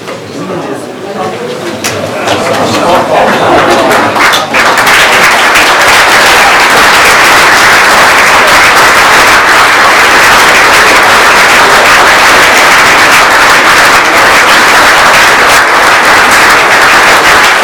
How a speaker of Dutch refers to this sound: Het zou fijn zijn als u dan een applaus geeft als ze binnenkomen of eventueel gaat staan.